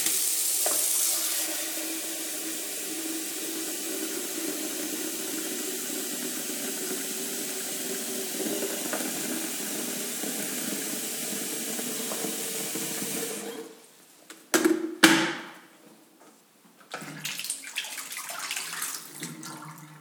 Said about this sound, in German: Du nimmst den Teekessel, stellst ihn in die Spüle, gießt Wasser in den Teekessel.